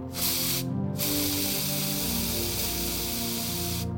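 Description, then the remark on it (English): A can of maximum strength hairspray sprays in a loud, steady hiss. The first can is nearly empty and is discarded, then after a brief pause a fresh can gives one long continuous spray as it is applied liberally to a hairstyle. No one speaks. “Scrambling back into her bedroom, Isabel reached for a can of maximum strength hairspray.”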